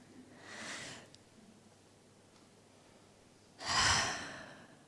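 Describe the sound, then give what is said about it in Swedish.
A single deep breath, a soft airy inhale followed after a pause by a louder, longer exhale like a sigh. “Och jag tänker att vi bara börjar med att ta ett djupt andetag.”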